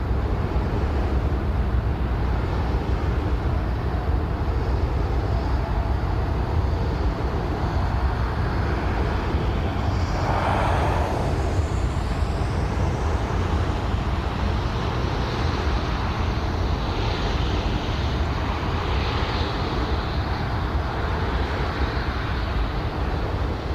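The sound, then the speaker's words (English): A steady, low rumbling roar of highway traffic blends with the broad whooshing drone of a wind turbine about 50 meters away, recorded on grass on 16 December 2023 at 49.607046° N, 5.917317° E, with one brief rising swish partway through. No voices are heard. “Around 50 meters from a wind turbine, highway noise in the background.”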